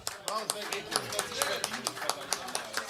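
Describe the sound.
Applause from a small audience: sharp, crisp claps in a quick, uneven patter, moderately loud, mixed with voices talking and exclaiming over them.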